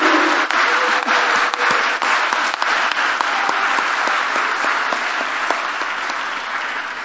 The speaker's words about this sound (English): And just one last time, let's have our Bulldogs stand up so we can cheer you all on. BSU! BSU!